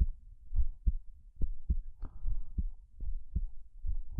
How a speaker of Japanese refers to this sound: 心臓の音聞こえる？